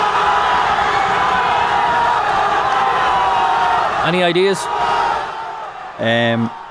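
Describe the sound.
A large crowd in Port Arlington cheers Argentina's World Cup final win in a loud, dense, continuous roar for several seconds, then fades as a single voice speaks briefly near the end.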